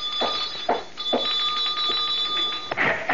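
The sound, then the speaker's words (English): A doorbell rings in one long, steady, shrill buzz lasting a couple of seconds, with a few dull thumps beneath it, then cuts off abruptly. No one speaks. “How damnably long does it take you to answer the door?”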